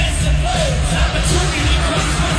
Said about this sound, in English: There he is. I mean, you hear the crowd. Oh, they went nuts.